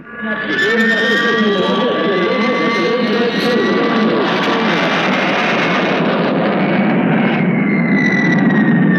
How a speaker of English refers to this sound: And now Britain's first jet bomber. And here comes the Canberra, which has just taken off, turning and diving at the field at high speed.